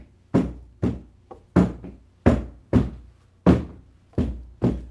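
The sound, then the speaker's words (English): A Gullah rhythm of the South Sea Islands of the United States, beaten with sticks: about nine loud, dry wooden thunks in a steady, slightly syncopated pattern, each strike sharp and quickly fading, with no voices. “So this is what the rhythm sounds like.”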